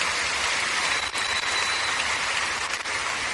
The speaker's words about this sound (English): Give the Lord a big clap offering, everybody.